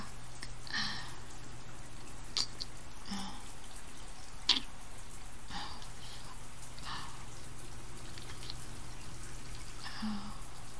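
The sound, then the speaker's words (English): Hot water runs steadily from a shower like a spray, a constant hiss with a few sharper drips and splashes landing now and then, with no one speaking. “Yeah, we're not leaving any hot water for anyone else, are we?”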